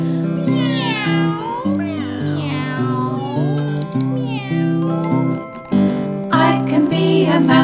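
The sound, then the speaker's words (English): Several drawn-out meows rise and fall one after another over a steady, bouncy musical backing, with a brighter, busier burst of sound toward the end. “I can be a cat. Meow.”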